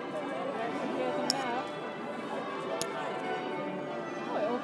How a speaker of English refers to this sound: And we have the bells.